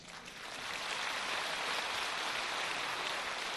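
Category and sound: crowd, audience applause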